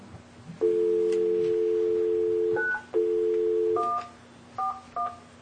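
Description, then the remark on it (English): A telephone's steady dial tone hums twice, then three short, distinct keypad beeps follow in quick succession as someone dials 9 first to place a call, clear with no voices. “Yeah, if you could, we need to call him. Okay. Go to phone. Oh, we gotta go to 9 first.”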